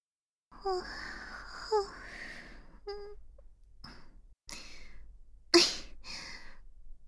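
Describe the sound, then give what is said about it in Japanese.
An intimate yawn: a drawn-out breathy inhale with soft voiced moans, followed by a few quiet breathy exhales and sighs, all fairly soft and with no one speaking. “またあくび出ちゃった。”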